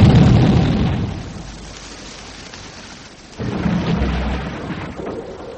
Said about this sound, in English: The plane. You've blown up the plane. So I have, in one blinding flash.